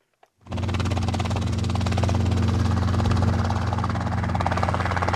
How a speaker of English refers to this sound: At Palm Beach County Park Airport, helicopter flight training is only being done on weekdays, Monday through Thursday.